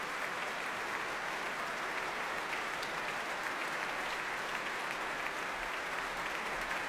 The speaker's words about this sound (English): The Violin Concerto No. 1 by Prokofiev, played by Vadim Gluzman, the violinist, with the BBC Symphony Orchestra conducted by Jiří Bělohlávek, who the moment the applause started, turned round and started clapping Vadim Gluzman himself.